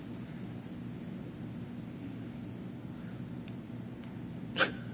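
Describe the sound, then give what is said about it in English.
Thunder rumbles low and steady throughout, with one sharp, brief crack near the end. No voices are heard. “Watch this lightning.”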